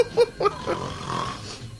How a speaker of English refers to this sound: He's snoring. I hope he's asleep. What that must sound like in his own room, I shudder to shrink.